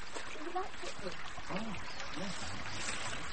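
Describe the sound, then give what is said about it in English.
River water rushes and babbles steadily over stepping stones, a continuous wash of sound, with a woman's voice murmuring faintly and briefly beneath it. “It was her voice I heard as I neared the river.”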